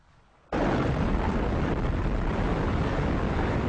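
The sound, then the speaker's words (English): A sound effect depicting the Big Bang: after a brief quiet moment, a massive explosion erupts and settles into a loud, sustained, rumbling roar that fills the space without fading, with no voices present. “The pieces of matter that were formed as a result of the Big Bang started flying away from each other at tremendous speed.”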